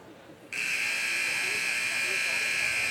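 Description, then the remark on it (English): A basketball game buzzer at a Sun Valley basketball game, with zeros on the clock before the second half, cuts in abruptly after a half second of faint background murmur, then blares as a loud, harsh, steady high-pitched buzz that holds unbroken to the end. “The buzzer has sounded.”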